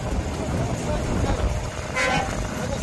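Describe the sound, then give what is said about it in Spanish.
Truck horns honk over a constant rumble of engines and traffic, with one loud, sustained blare toward the end and indistinct voices murmuring in the background, as trucks carrying basic supplies cross the Rafah border crossing into Gaza. “Era el momento en el que estos vehículos cruzaban la frontera.”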